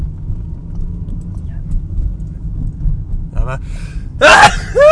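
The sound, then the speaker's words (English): On a Friday morning, a steady low engine rumble fills the background, then a short sharp intake of breath leads into one loud sneeze near the end. “Excuse me, I'm going to sneeze.”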